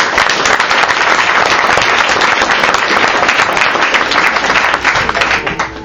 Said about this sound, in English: Ladies and gentlemen, a round of applause for my godson